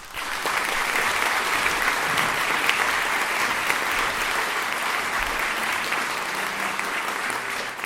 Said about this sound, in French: Je vous prie d'applaudir